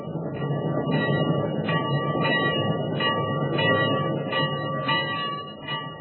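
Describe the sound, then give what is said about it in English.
A locomotive bell clangs in a steady, repeating rhythm over the loud, continuous rumble of a passing train, with no voices. “And that lovely bell on the locomotive keeps ringing, ringing.”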